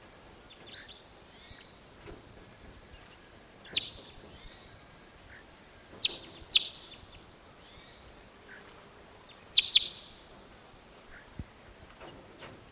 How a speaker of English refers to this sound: Those birds all went down lower into another Apache pine set. Okay, those birds are in an Apache pine, low, here comes one of them, came back into the big pine, and pointed at it for possible recordings, swooped down lower,